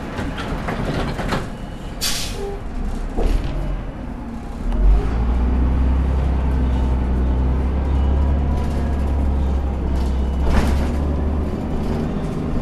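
Interior of a city bus in motion: a steady low engine rumble swells after a few seconds, with rattles, clunks and brief hissing bursts over the drone, no voices.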